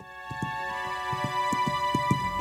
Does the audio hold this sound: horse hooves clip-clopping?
yes